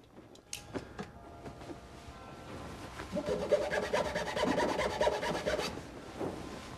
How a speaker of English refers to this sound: He pulls a drawer out of his desk and tips it over, cutting a mark in the underside of it with a knife.